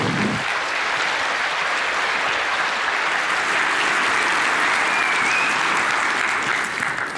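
A large audience at a talk claps steadily for about seven seconds to welcome a computer science speaker presenting his research, a dense, even wash of hand claps that stays loud throughout with no voices on top.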